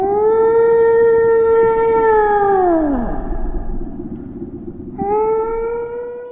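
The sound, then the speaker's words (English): A long, moaning whale call with rich harmonics holds steady, then slides sharply downward and fades; after a short pause a second rising, wavering call begins, loud, with no talking. “Sarah's favorite subject is whales.”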